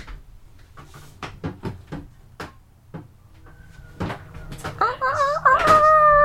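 A run of sharp clicks and wooden knocks as doors are opened, irregular and fairly loud, followed by a high, wavering whine like a dog whimpering over a low background hum.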